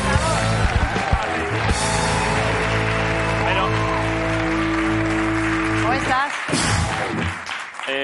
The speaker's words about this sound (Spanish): Hoy en La Resistencia, el antiguo programa conocido como Roger Federer, estamos muy contentos de recibir un aplauso para